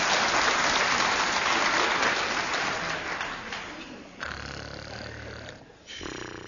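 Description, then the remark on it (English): A person wearing a frock snores loudly, starting with a long, harsh rasping breath that fades, then a lower buzzing snore and the start of another, with no talking. “Here, who is that snoring in that frock?”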